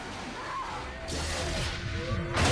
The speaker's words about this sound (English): The laser bolt breaks the glass and water gushes out. Talia hangs onto tubes as Adam's clone tries to drag her in. The water knocks Marshall off his feet and pours into the lab.